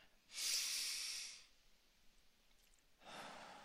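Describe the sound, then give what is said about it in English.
A deep, thankful breath is drawn in with a loud, airy rush, followed after a short pause by a softer, lower exhale, with no talking. “And recognize as you breathe in, you're breathing in God and peace and joy. And when you breathe out, recognize that you're breathing out stress and discouragement and disappointment.”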